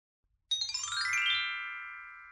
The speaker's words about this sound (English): You'll hear a chime to note the transition between conversations.